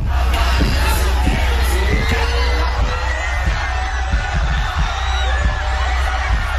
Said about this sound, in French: Ça crie là. Je te dis là, c'est des milliers de personnes qui capotent bien raide